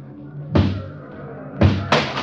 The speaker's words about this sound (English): And then when I heard the door come down, I knew I was through. They're tearing through the front of the building now, and they'll be pouring into this cell block in just a second.